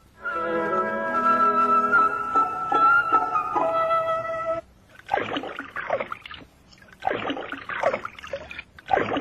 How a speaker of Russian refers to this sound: Как бы енот не был голоден, он никогда не станет есть, прежде чем не прополощет свою пищу в воде. Вот и сейчас я вижу енота, сидящего у ручья и окунающего что-то в воду.